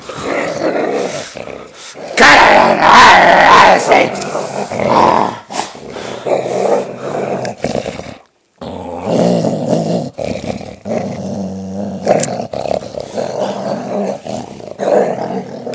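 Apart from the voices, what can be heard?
dog growling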